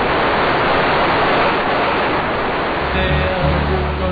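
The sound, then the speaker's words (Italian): A steady, loud roar of sea waves washing onto the shore, dense and unbroken throughout, with a faint low hum rising underneath toward the end. “Apertura, ci siamo. Il mare, il mare, il mare.”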